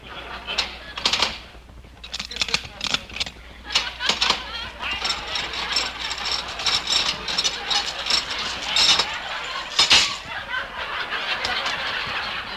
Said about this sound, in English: Just a second, I'll unbolt the door.